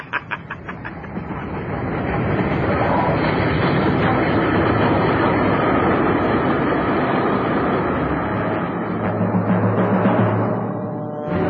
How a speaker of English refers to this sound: Here comes the train.